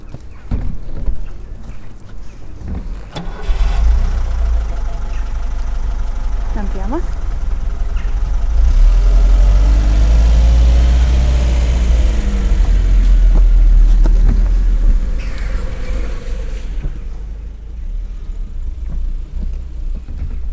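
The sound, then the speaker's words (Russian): A car engine idles with a deep, steady rumble. It kicks in after a few seconds, swells briefly in the middle, then drops away near the end, with faint background noise throughout. “Машина была, как и для всех семей, роскошь. Это был друг, с которым папа пропадал постоянно в гараже.”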